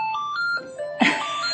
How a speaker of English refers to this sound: So, oh, and the phone's ringing. There's so much going on here.